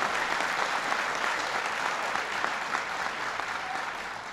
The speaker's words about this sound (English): So, talking to Rick, I know Thompson Creek is planning to take full advantage of this tax break, and that's going to help Thompson Creek renovate, expand, and add another 100 new employees right here. And that's worth applauding. That's good.